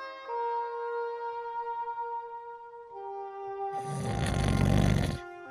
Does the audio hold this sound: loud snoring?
yes